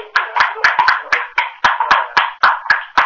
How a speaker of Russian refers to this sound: Можно хлопать?